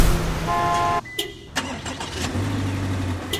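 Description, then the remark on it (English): A Subaru Legacy's engine is started remotely via smartphone: a few sharp clicks and a brief electronic chime, then it cranks and starts, settling into a steady low idle hum. Moderately loud, with no voices. “Remote engine start via smartphone. In the most advanced Subaru Legacy ever.”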